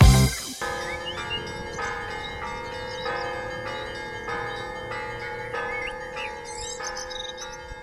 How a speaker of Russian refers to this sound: Перезвон колоколов небо гладь, на Дивеевской земле благодать